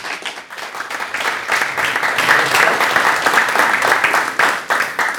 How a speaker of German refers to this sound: Somit Applaus für Klaus Pilsel.